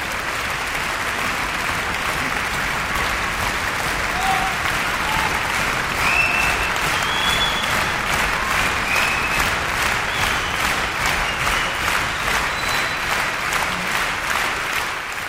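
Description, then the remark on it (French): Sustained audience applause fills the whole stretch, a dense steady clatter of many hands clapping, with a few faint whoops and voices mixed in. “Applaudissez s'il vous plaît.”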